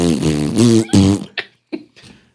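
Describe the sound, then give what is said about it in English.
A person imitates a fart with the mouth in an audition for captain of the Bills: two loud, buzzy, drawn-out raspberries followed by a few short sputtering pops that trail off, fairly loud. “Who can come closest to farting?”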